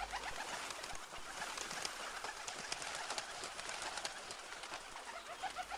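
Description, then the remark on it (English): A flock of birds eating seed scattered on a footpath chatters and calls continuously, with busy overlapping chirps and fluttering, a steady lively din with no speech. “As he scattered it across his field, some seed fell on a footpath, and birds came and ate them up.”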